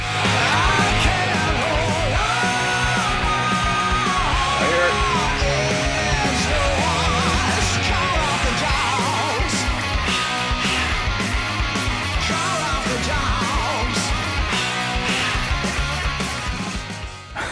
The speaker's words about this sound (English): I hope you can hear this because I want to play a few seconds from my favorite song so far from the new record,